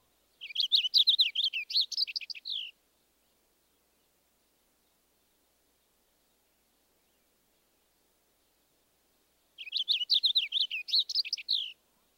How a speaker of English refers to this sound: Next, the clearer song of the purple finch.